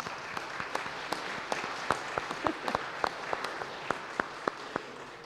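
An audience applauds steadily for about five seconds, a dense wash of many hands clapping with sharper individual claps popping out above it, holding an even, moderate level throughout.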